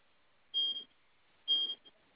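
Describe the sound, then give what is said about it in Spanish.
Two evenly spaced electronic beeps, each high-pitched and about a quarter second long, sounding alone: a freezer door alarm that sounds when the freezer door is not closed and stops when it is closed. “Ese sonido es de la puerta de la congelación. O sea, si no se cierra, suena.”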